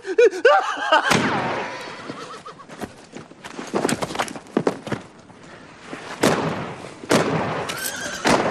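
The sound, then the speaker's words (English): A horse whinnies in a rising, wavering cry, then gunshots crack out in sharp bursts among clattering hoofbeats, a loud, chaotic gunfight from the spaghetti western Death in Timbuktu, with no talking. “But then all of these neighborhood children are watching this spaghetti western, Death in Timbuktu.”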